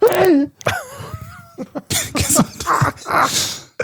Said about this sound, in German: Finde ich auch immer geil beim Niesen.